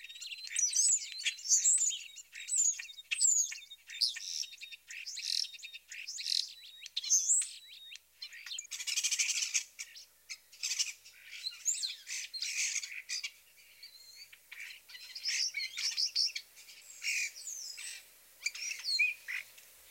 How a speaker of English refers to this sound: Included in his repertoire are high-pitched squeaky squeals, wolf whistles, and even garbled clucks and clicks. Listen to these starlings giving their typical complex vocalizations.